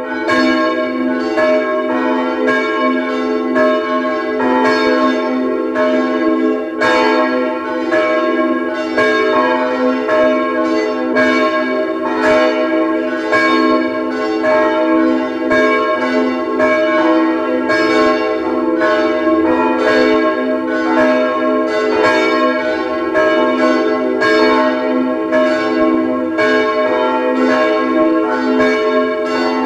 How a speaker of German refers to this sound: Es ist 12 Uhr. Sie hören die Glocken der Pfarrkirche Neulerchenfeld im 16. Wiener Gemeindebezirk.